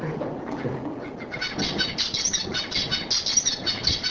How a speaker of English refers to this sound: Okay, so that's one bird. A different bird has a completely different song. And so even though they all kind of sound zebra finchy, right. So there's a common structure to zebra finch songs.